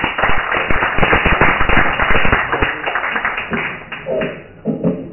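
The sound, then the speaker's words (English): A crowd claps warmly as a poet is introduced, dense overlapping handclaps for several seconds before thinning out as the applause fades and a voice begins to speak. “So a warm round of applause”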